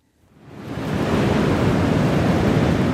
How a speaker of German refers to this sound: Wir treffen uns am Strand von Guincho bei Cascais, westlich von Lissabon. Hier bläst der Wind kräftig vom Atlantik.